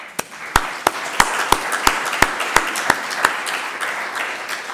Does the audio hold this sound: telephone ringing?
no